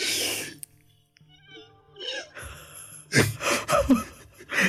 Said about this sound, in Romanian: Eu vreau să încerc astăzi căscatul zâmbit.